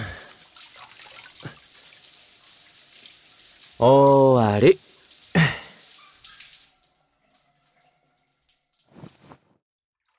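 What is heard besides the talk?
water rinsing hair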